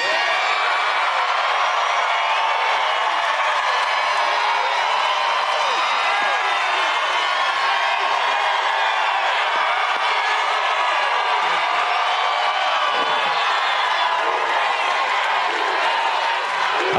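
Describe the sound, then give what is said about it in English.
A large crowd cheers and whoops loudly and continuously, with shouts and scattered clapping blending into a dense, steady roar that holds for the whole stretch. “The crowd loved it.”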